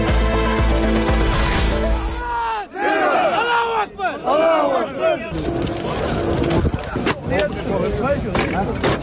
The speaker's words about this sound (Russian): Поймать, осудить и даже казнить. Такие требования звучали на митинге в центре Грозного. По словам чеченских властей, 400 тысяч человек, то есть треть населения Чечни, приехало в тот день к мечети Сердца Чечни, чтобы требовать наказания для семьи